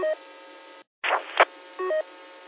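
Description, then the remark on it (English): Two short electronic telephone dialing beeps, a second apart, with a brief crackling burst between them, all over a steady thin line hiss, as if heard through a phone connection. “He might have gotten a phone call or something.”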